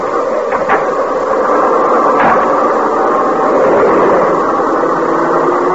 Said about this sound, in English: The train is close enough now.